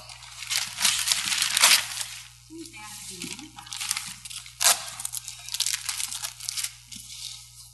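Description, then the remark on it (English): Gift wrapping paper being torn and crumpled as a woman opens a present in front of a crowd, in repeated crackly bursts, fairly loud, with a few brief sharp rips standing out over the steady crinkling. “She's not going to save the paper.”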